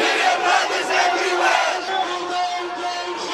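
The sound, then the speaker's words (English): A large crowd of thousands of protesters in downtown London chants and shouts together on a Saturday, in solidarity with those trapped in Aleppo. It is a loud, dense mass of voices that stays steady for the whole few seconds, with no single speaker standing out. “Thousands of protesters gathered in downtown London on Saturday in solidarity with those trapped in Aleppo.”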